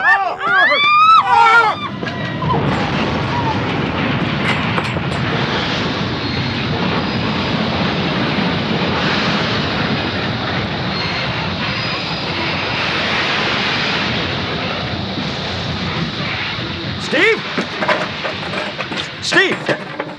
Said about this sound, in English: We must have smashed into another train.